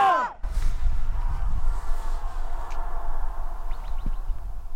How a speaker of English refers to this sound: Let's go that way first and just yell Yampa as loud as we can. Staying silent for, let's say, a good 10 seconds. So you can count, try to count how many echoes you can hear, okay?